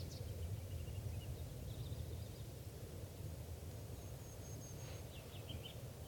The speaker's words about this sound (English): Okay, bird one there is a male perched right above the net, and this is him getting some song phrases.